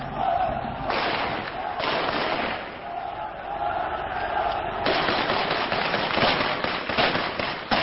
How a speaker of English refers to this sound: The sound of gunfire in the streets of Port-au-Prince is an almost daily occurrence these days. During this demonstration, police fired over the heads of protesters on New Year's Day to disperse a crowd